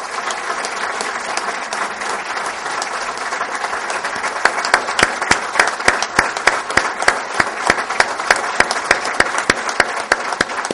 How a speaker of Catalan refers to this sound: Llarga ovació per acabar aquesta sessió plenària que oficialitzava doncs, el nomenament de Víctor Puga com a alcalde de l'Escala.